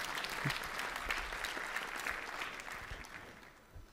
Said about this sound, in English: Only one little salt golf clap? Come on!